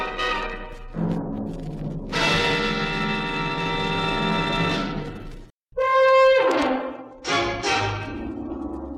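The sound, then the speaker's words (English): A doorbell of a three-story apartment house, pressed by a woman, chimes repeatedly in a series of loud, ringing tones that sustain and fade, with a brief silence before a final pair of chimes. No one speaks. “She pressed a dainty finger on the bell, and who should open the door and take her in his arms but Nim Sicaro?”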